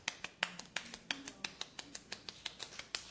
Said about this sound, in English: Now, also in Indonesia and in different islands, Sumatra, they have this very special clapping that looks like this.